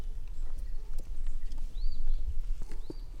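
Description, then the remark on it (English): Several steers (neutered male cattle) named Chico, Roo, Eddie and Houdini plod toward the speaker at The Gentle Barn, their hooves landing in an irregular series of heavy thuds over a low outdoor rumble, with a few faint chirps in the background. “Here they come. Technically, they're steers, male cows that have been neutered,”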